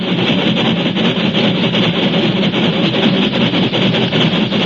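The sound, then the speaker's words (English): A steam locomotive on tracks across the plains of the Southwest roars loudly and steadily, its heavy churning rumble of pounding drivers blended with a broad hiss of escaping steam, never pausing for the whole stretch. “But even before it died away, the steel scars began to hum and pulse with life, and a moment later they were smothered under a monstrous roar of pounding drivers and escaping steam.”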